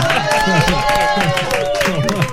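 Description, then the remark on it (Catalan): Steady applause from an audience, a dense crackling wash of many hands clapping at once, with voices and cheering mixed in throughout. “Aplaus. A veure, què vol dir aquesta aplaudiment?”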